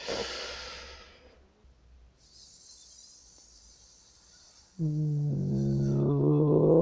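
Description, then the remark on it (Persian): A deep diaphragmatic breath is drawn in while seated, then let out as a long, steady, fairly soft hiss lasting a couple of seconds, which turns into a sustained, louder voiced "aah" tone, as a breathing exercise for speaking. “برای منظور میشینیم، یک دم دیافراگمی میگیریم، با همون صدای هیس خارج میکنیم، صدای هیس رو تبدیل به صدای آ میکنیم، کم کم شروع به بیان حروف و ادای کلمات میکنیم.”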